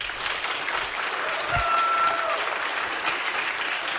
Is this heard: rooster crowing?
no